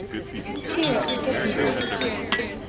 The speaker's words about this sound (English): Cheers. … clink mugs.